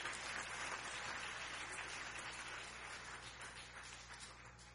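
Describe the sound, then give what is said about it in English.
A crowd claps together to give God glory, in a steady, dense wash of applause that holds for several seconds and eases off slightly toward the end, with no voices rising above it. “Come on, somebody clap your hand and give God some glory.”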